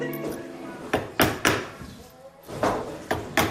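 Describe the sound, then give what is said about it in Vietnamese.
Sharp hammer taps land irregularly, about six loud knocks spaced by short pauses, over a low, steady background hum and faint murmuring, in an upholstery workshop on Maréchal Foch street in the town of Cassel, Hauts-de-France, northern France. “Những tiếng búa gõ, tiếng cắt vải có lẽ không còn xa lạ đối với cư dân tại khu phố Maréchal Foch ở thị trấn Cassel, vùng Hauts-de-France, miền Bắc nước Pháp.”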